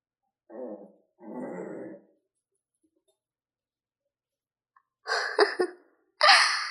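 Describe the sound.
A person imitates an angry dog growling: two low, raspy bursts, a few seconds of silence, then two sharper, brighter snarls, all close and fairly loud.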